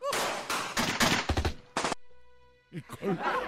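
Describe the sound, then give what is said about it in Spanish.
A quick volley of loud gunshots from a Colt 45 revolver cracks out in an uneven burst, then a brief high ringing tone hangs before a voice starts talking. “William y John se acercaron al lugar donde efectivamente se encontraba Loco Clay, quien le recibió a tiros con su Colt 45.”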